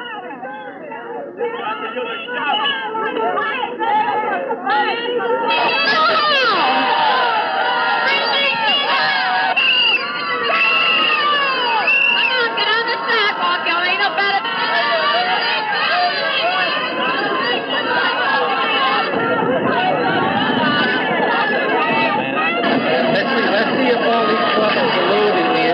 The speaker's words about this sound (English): Bridges leaves William Krantz School each day, she faces the same shouts from the same people. The crowd is never very large, no more than 70 or 80 people, but it is always very loud.